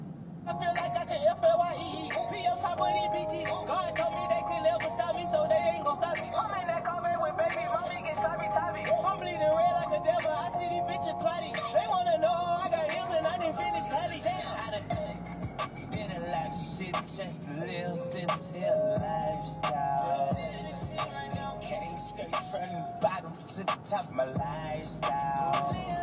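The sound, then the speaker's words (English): A song with a singing voice plays steadily from a car radio while driving in heavy traffic, moderately loud and continuous, with a low rumble of the moving vehicle underneath. “Well, now that I've hit the real traffic, I guess I should see what's on the radio.”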